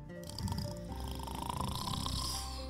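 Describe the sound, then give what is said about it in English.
A pirate who has crashed into a lake snores with a steady, purring rumble, layered over faint watery trickling and drips, with no voices present. “But this pirate had somehow crashed into this water and was now snoring”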